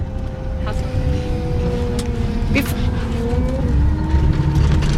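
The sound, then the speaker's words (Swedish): Steady low rumble of a moving bus from inside, with engine drone, a faint tonal whine and road noise holding at a constant level for the whole stretch. “Är din son på bussen här nu?”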